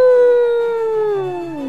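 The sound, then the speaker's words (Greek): A person voices a single drawn-out wolf howl, a steady tone that slowly sinks in pitch, loud, with no other sounds around it. “Φόρεσε τη λυκύσια γούνα του, στάθηκε μπροστά στο παράθυρο και βάλθηκε να κάνει το λύκο. Αού!”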